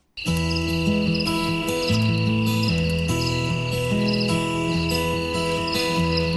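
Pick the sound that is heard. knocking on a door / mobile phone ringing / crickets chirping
crickets chirping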